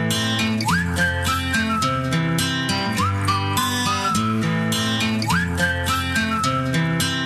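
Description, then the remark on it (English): A bright whistled melody rides over a full pop backing track, its sliding, upward-swooping phrases repeating every couple of seconds. The beat stays loud and steady throughout, with no voices. “Can you blow my whistle, baby? Whistle, baby, let me know.”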